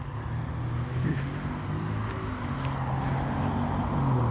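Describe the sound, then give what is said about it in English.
Steady road noise from car traffic on a road in the morning, a low engine rumble and tyre hiss that holds fairly constant, swelling slightly toward the end as a vehicle approaches. No one speaks. “Lots of people out this morning. Well, cars.”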